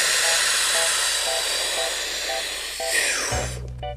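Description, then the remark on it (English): A freediver's breathing technique, as learned by world champion freediver Tanya Streeter: a long, forceful breath rushes steadily for several seconds, loud and hissy, while a faint beep repeats about twice a second underneath; a low sustained tone comes in at the very end. “To become a world champion in freediving, Tanya Streeter learned to breathe like this.”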